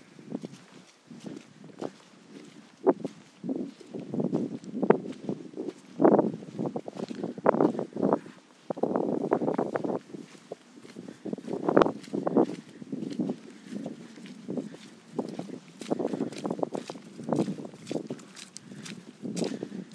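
Steady footsteps in walking shoes squelch through wet, muddy ground at a walking pace on a gloomy day with rain due, with a soft rustle and light wind noise in the background.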